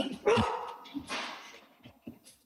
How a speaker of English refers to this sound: Dogs are going crazy again.